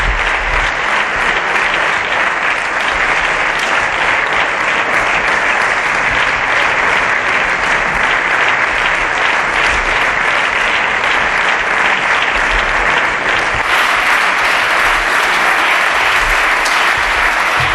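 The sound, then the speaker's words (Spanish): Sustained, dense applause from Casado's parliamentary group, steady and loud for the whole stretch, with no pauses and no clear voices standing out. “Aplaudido por su grupo parlamentario, como estamos señor escuchando.”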